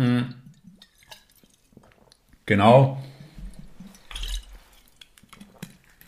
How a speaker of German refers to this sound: Ich werde kurz einen Schluck Wasser nehmen.